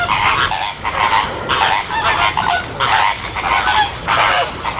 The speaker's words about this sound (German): Genau, es geht um die Flamingo. Die schön rosa gefärbten Vögel, die im Frühling mit einem riesen Geschnatter auf sich aufmerksam machen, sind hier im Zolli